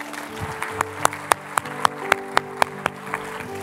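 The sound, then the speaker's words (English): Steady, rhythmic clapping at a quick even beat, bright, a big round of applause, with sustained musical tones humming underneath; no one speaks. “a big round of applause, would you?”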